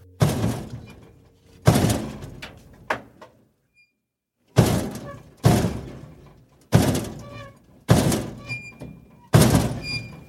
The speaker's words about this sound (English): I was working the midnight to 8 shift when about 3 in the morning I started hearing the door downstairs open and close violently.